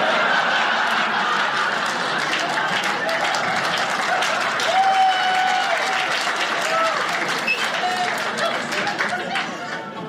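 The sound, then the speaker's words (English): A crowd breaks into sustained applause after a joke that dunking is cooler than sprinkling at baptism. Dense, steady clapping is mixed with cheers and murmuring voices, holding strong for about ten seconds before starting to taper off at the end. “Never got an applause break on that before.”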